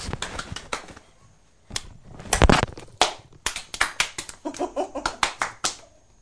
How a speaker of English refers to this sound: Oh, nearly finished. Oh, well done. Look at that. It's a big jigsaw puzzle, isn't it? Can you have a clap?